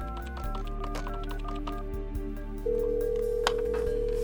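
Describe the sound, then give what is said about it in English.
A landline telephone dial tone starts partway through and holds as a steady, unbroken hum to the end, loud, following a few seconds of softer tonal sounds and low rumble. “Oh, well, let's try the landline now.”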